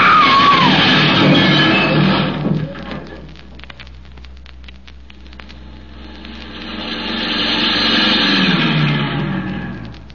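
A car crash after a tire is hit and a truck drives on the wrong side, the car tipping over: a loud, harsh engine roar cuts off into scattered crackling and clattering bits, then a broad roaring rush swells up again and holds. No voices.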